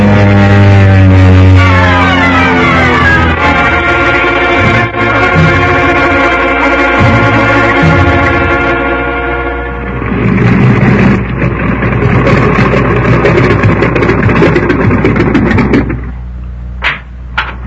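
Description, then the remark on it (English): A seaplane's loud, droning engine whines down in pitch as it descends, then gives way to a rushing, splashing wash of water as it touches down on the water beside a fishing boat and settles. “Hang on to your hat, Pagan. We're going down to find out which.”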